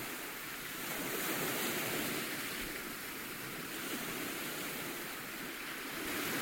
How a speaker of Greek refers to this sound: θαλασσινό αεράκι, να ακούσω λίγο θάλασσα.